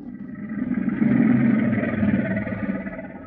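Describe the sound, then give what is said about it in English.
Deep, rumbling roars from a couple of crocodiles, a loud, rough, continuous growl that swells after the first second and holds steady for about three seconds, with no talking. “That's a couple of crocodiles roaring.”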